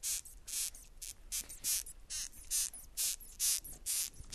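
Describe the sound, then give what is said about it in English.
A female migratory moth squeaks when disturbed: a quick series of about a dozen sharp, high, hissy squeaks, evenly spaced roughly twice a second, with no talking over them. “So the literature says it squeaks when it's disturbed or alarmed.”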